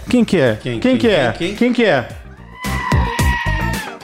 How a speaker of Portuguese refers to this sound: É o bode! Cara, o bode é o animal alfa, eu já expliquei isso pra vocês.